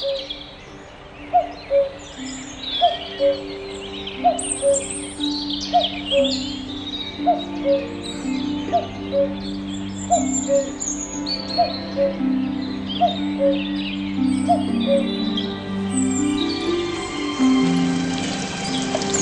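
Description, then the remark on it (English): A common cuckoo calls over and over, its two-note "cu-coo" repeating at a steady pace, set against a busy dawn chorus of smaller birds twittering. “what stole the show for me was a bird a little closer to home. One that is found across Europe, Asia, and Africa. The cuckoo.”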